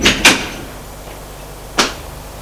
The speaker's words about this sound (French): Il referme la porte derrière eux.